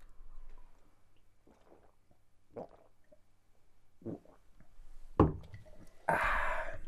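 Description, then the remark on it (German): Someone chugs strawberry sparkling wine from a bottle: soft, irregular gulps and wet swallowing sounds that grow louder, ending in a harsh, breathy burst of fizz or exhaled air. “Der Erdbeer-Sekt auf Ex.”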